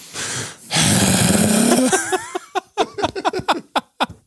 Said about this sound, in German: Einfach so reinatmen, richtig tief einatmen ins Mikrofon so.